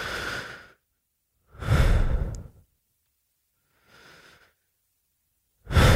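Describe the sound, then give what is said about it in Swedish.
Slow, deep breaths drawn in and pushed out at the start of a meditation, with pauses of silence between them; one exhale is noticeably softer than the others, and no one speaks. “Men för att bara mjukstarta sin meditation så kan man den första minuten bara jobba med djupa andetag.”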